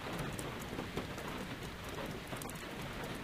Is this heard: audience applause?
no